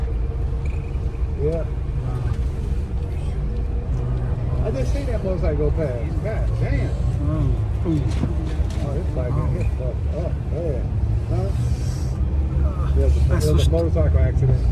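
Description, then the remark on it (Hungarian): Steady low rumble of a bus rolling through road traffic, constant and fairly loud throughout, with people talking over the engine noise. “Ja, valami baleset történt, mert egyébként az előbb így nagyon erősen fékezett a busz.”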